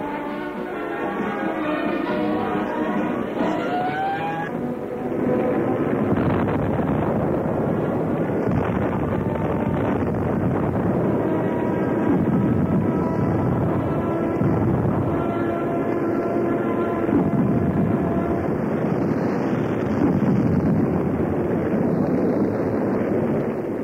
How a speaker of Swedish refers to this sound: Den här kartan har noga studerats av en viss bombflottilje. Den är på väg nu. Kommer närmare och närmare. Snart smäller det.